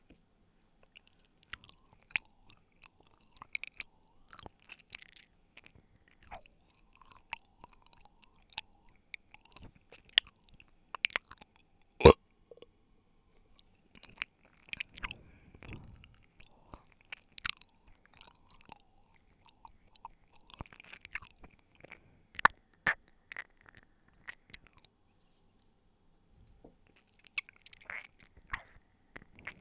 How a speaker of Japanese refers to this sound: 今日は耳なめしながらゲップをしていきたいと思います。それではしていきますね。